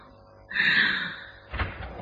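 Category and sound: household object, door being opened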